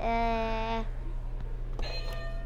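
sound effect, game show buzzer

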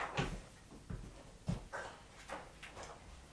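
animal, dog whimpering

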